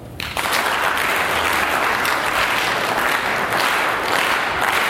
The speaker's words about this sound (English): Okay, I'll show you a simple experiment. Just listen carefully to what I'm going to say and then try to follow the instructions while I time you. I want you to clap at once in unison until I say stop. Go.